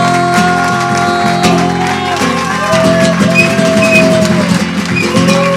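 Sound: loud audience applause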